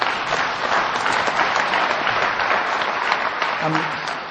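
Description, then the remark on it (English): A roomful of people applauding steadily in recognition of a speaker's sobriety, a dense, even wash of many hands clapping at once that holds at the same loudness for a few seconds without letting up. “I'm coming up on 33 years, and clapping for an alcoholic who quits drinking is like clapping for a cowboy with hemorrhoids who stops riding his horse.”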